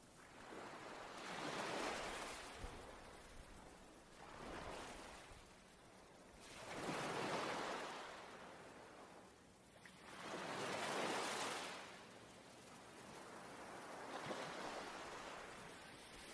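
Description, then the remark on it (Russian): Soft, hollow ocean surf sound heard through a seashell held to the ear, rising and falling in slow swells, about four broad whooshing waves over the stretch, with a steady airy hiss underneath and no voices. “Поднимите эту морскую раковину и приложите ее к уху и послушайте, что она вам скажет.”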